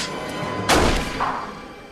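A single loud gunshot, Agent Castle shooting Ali dead in an office, bursts out over a low background hiss, its sharp crack trailing into a brief rumbling decay. No one speaks.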